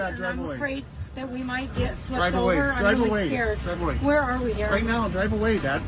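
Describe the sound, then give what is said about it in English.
Eerie whale calls from a whale, either a mother or her daughter, right under a whale-watching boat, rise and fall in long, wavering tonal moans, sounding close and fairly loud over a steady low rumble, with overlapping sweeping cries filling the whole stretch. “Do you hear that? It's right under us. It's either the mom or the daughter.”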